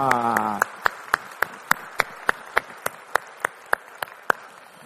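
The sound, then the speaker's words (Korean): A church audience claps in steady unison as applause of glory to the Lord after worship singing, about fourteen sharp, evenly spaced claps over a soft crowd wash, after a brief voice at the start. “우리의 찬양을 받으신 주님께 영광의 박수 올리겠습니다.”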